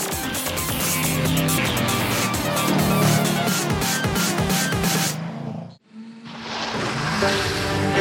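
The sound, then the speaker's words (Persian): A loud 2015 Chevrolet Camaro Z28 roars past on a race track, engine note rising and falling through gear shifts with brief tire noise, then a quick dip as it passes before the engine roar resumes. “بنابراین گفتن این که شورولت کاماروی Z28 سال 2015 یک رقیب سرسخته هوش زیادی نمیخواد.”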